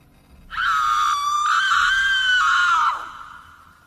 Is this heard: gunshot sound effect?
no